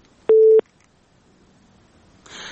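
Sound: telephone call connecting tones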